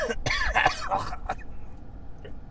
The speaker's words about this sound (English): That was coughing.